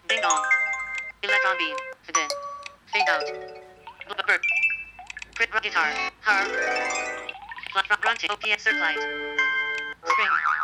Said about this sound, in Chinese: 短信铃声，它的设置方法呢，跟我们设置，跟我们设置刚才的手机铃声是一样的啊。我们点击啊，触摸，选中我们想要的铃声，然后双击。